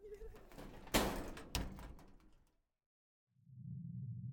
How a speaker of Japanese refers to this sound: ではドアを閉めします。